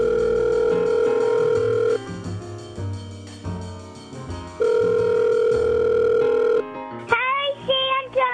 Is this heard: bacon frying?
no